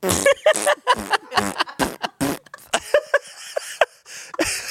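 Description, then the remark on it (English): A voice imitates loud farts made while on a Stairmaster, blurting a rapid string of sputtering, raspy bursts one after another for several seconds, with brief gaps between them. “But what if it's really loud? Cut to Shane on a Stairmaster just like.”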